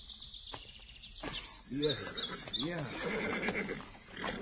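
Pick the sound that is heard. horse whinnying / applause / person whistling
horse whinnying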